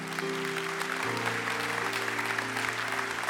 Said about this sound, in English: Can we give all those people a huge round of applause?